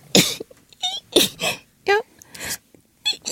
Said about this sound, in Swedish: Ska vi ta och prata om dina nysningar?